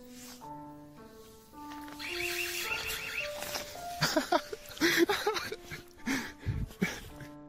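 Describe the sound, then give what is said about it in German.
Rainer Winkler's new home alarm system sounds a sequence of steady electronic tones stepping up and down in pitch, then gives way to loud, harsh, noisy bursts with no talking. “In einem Besuchsvideo von diesem Tag war auch Rainers neue Alarmanlage zu hören.”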